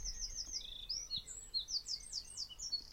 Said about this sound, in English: That was a wren just there. Wren's got an amazing, amazing song. Oh, look, there it is. Just there in the tree.